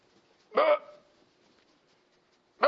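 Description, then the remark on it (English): A voice imitates a baby's burp as if burping an infant: two short, abrupt vocal bursts about two seconds apart, fairly loud, with near silence between them. “Got to burp him.”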